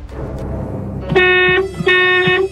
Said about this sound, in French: Vrai ou faux? Un coup de klaxon c'est vrai, deux coups de klaxon c'est faux, trois coups de klaxon